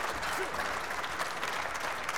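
Steady audience applause for a band at an intimate venue, a dense wash of many hands clapping at an even, sustained level with no pauses, with faint crowd murmur underneath.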